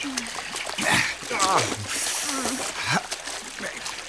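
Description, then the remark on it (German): Water splashes and sloshes steadily as people wade into a cold lake to swim across to the other shore against a strong current, with bursts of heavier splashing, while voices exclaim and talk over the noise. “Wir sollten keine Zeit verlieren und gleich ans andere Ufer schwimmen.”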